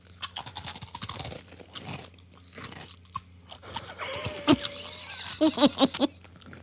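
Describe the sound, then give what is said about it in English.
Loud crunching of Funyuns onion-flavored snack rings being chewed, with repeated sharp bites and brittle crackles in an irregular rhythm, plus a few scraping sounds, and no talking. “Why don't you try a Funyun?”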